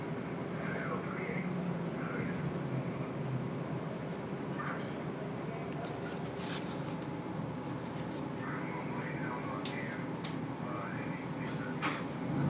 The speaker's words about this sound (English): Hear those CB sounds.